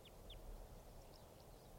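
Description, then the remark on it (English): A lone type 2 crossbill calls: two sharp, high, downslurred kip notes in quick succession, then two fainter ones a moment later, over a steady low rumble. “This is a lone type 2 bird.”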